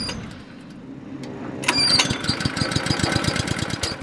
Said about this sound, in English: ducks under the belly of a giant boat-shaped airplane to flick on a heated pressure washer. I'll fire the pump up for you.